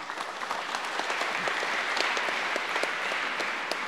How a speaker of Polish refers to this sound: Wielkie brawa.